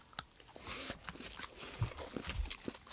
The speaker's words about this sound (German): Endlich Schmatzen erlaubt im Podcast. Mhm. Ich würde mal sagen, mit noch mehr Pistaziencreme in der Mitte wäre es noch ein bisschen geiler. Aber es schmeckt schon ziemlich gut.